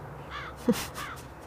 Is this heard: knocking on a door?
no